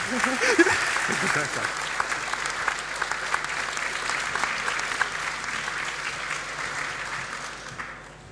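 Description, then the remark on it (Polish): A crowd claps steadily for several seconds in applause for a team, a dense and continuous patter, with faint voices briefly audible near the start before the clapping fades at the end. “Mam jeszcze tylko 10 sekund, więc myślę, że należy nagrodzić tą drużynę gorącymi oklaskami.”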